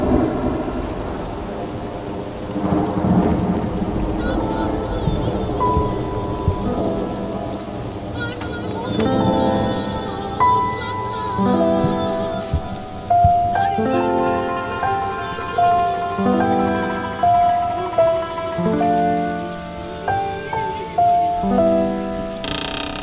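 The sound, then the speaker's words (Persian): Steady rain hisses throughout while deep rolls of thunder rumble early on, and a slow melodic instrument plays clear sustained notes over the storm in the second half. “در خونم رو میبندم، نبار بارون باهات قهرم.”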